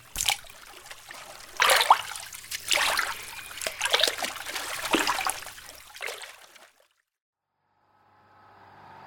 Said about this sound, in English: And how are we going to do that? Pound the water with my paddle and scream that something took you.